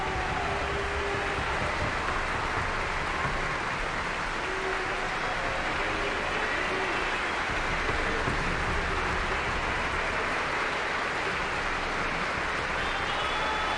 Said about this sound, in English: Luciano's face grimaces tearfully as he stands, frozen and alone on a raised dais. Members of the orchestra join in the applause. Maestro Domingo applauds and wags a finger at Luciano.